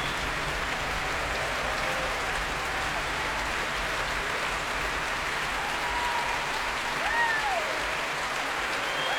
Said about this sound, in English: And here he is back on stage now with Valery Gergiev. So the huge acclaim of the crowd here at the Royal Albert Hall.